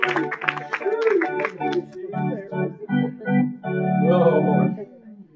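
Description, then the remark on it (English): A crowd at a revival worship service claps in quick, sharp bursts for a couple of seconds, praising God, mixed with raised voices, then the clapping fades and sustained vocal tones and talking carry on. “Give him a hand clap in the house.”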